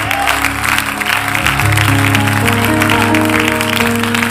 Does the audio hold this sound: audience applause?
yes